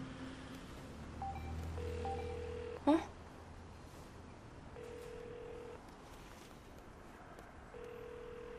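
Telephone dialing: a couple of quick keypad beeps sound, then a sharp click, followed by a steady ringback tone repeating every few seconds over a low background hum, with no one speaking.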